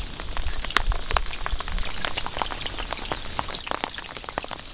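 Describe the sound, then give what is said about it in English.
Steady rain moving up from the south, a dense patter of drops with scattered sharper taps and a low rumbling wash underneath, continuous throughout with no voices. “Certainly hope this rain continues. It's moving up from the south.”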